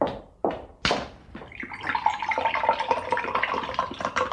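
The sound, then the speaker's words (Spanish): Three sharp cracking knocks in quick succession, then a steady gurgle of liquid pouring and sloshing as two eggs are cracked and dropped into orange juice. “Ya le puse dos blanquillos al jugo de naranja.”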